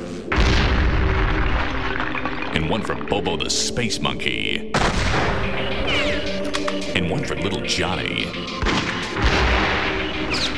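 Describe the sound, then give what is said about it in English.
Repeated loud gunshots crack and boom at irregular intervals over a dense, continuous rumbling background, while a man talks steadily between and over the shots. “And one because I have ammo left.”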